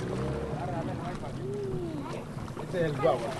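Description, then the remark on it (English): An outboard motor on a long wooden canoe, the only form of transport to the village, drones steadily, its low hum running the whole time beneath rushing wind, with indistinct voices rising briefly over the engine noise. “This is basically a long wooden canoe with an outboard motor on it.”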